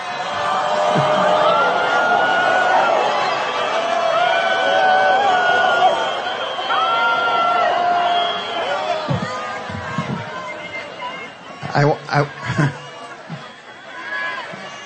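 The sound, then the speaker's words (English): A large crowd roars with sustained, droning vocal boos for several seconds, then the noise breaks into scattered shouts and bursts of louder commotion near the end, in response to the mention of Prime Minister Benjamin Netanyahu. “All right, so you know, clearly they're booing and they're mad, and then the reports later this same crowd was chanting Trump's name.”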